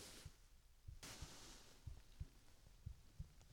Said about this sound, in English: You can listen to my heartbeat as I do. And you can feel my chest rise and fall with my breath.